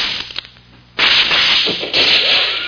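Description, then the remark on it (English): After a near-silent second, a sharp gunshot cracks out and smashes into a rifle, trailing into a harsh, noisy rattle, with a second loud burst of clatter just after. No one speaks. “That shot smashed my rifle to bits.”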